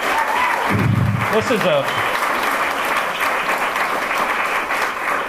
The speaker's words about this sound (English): So, again, a round of applause specifically for Joe, chairman of your party.